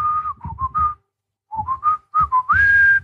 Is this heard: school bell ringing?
no